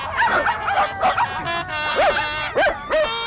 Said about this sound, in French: Quand un chien aboie, c'est qu'il est content.